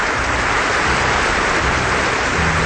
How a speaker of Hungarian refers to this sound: Könyvnap van, és ebből az alkalomból az zúgó eső jutott eszünkbe, mely elöntötte a várost, és rájöttünk, hogy a víz és a papír nem barátok.